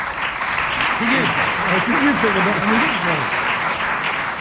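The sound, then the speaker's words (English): A dense, sustained burst of audience applause fills the whole moment, loud and steady, with a voice or two faintly audible beneath the clapping. “Tumultuous applause there for.”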